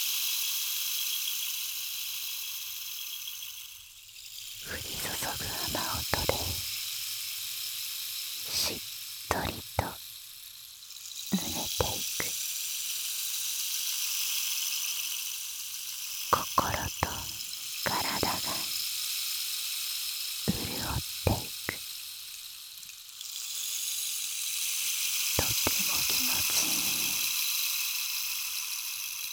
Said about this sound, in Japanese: ほら、聞いていてごらん。君の体に雨が降り注ぐ。心地よい雨音のシャワー。